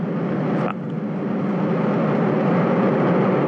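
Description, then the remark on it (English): Soyuz rocket engines ignite at launch on the launch pad with a crew aboard, a loud, continuous roar, a dense rushing rumble that holds steady and builds slightly after a brief dip near the start, with no voices. “Less than 15 seconds, the engine's igniting.”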